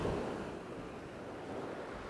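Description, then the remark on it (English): Steady ocean surf washing onto a small beach on open ocean at sunset, a continuous broad rush of waves, with some wind noise and no voices. “It is just fucking ocean as far as the eye can see. Oh, there's a nice little beach here though.”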